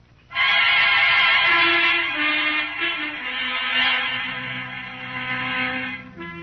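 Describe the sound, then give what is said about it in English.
A horse bearing the T-Bar brand whinnies loudly, a long, strained, quavering call that holds for several seconds before breaking off, with a lower rumbling tone underneath. “They gave me a horse, all right, with the T-Bar brand on it.”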